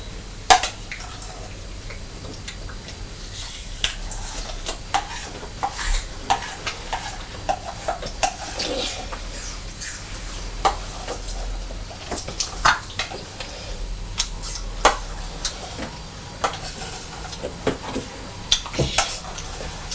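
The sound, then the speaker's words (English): Purdy the cat crunches dry food in a steady, irregular series of sharp, crisp little cracks over a faint background hiss, with no one talking. “I can hear Purdy eating her food as well.”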